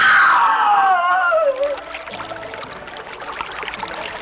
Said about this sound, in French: Et oui, même une rivière passe en ce lieu, c'est la Birse.